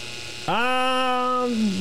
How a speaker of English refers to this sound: This is almost insignificant. I'm telling you, this is the drill. It generates almost no noise. It's designed to be that way because we don't want, you know, a drill affecting, you know, potentially sensitive instruments that we use to work, okay?